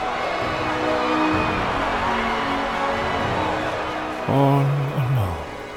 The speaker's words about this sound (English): He could hear the cheers from the crowd outside growing louder and louder.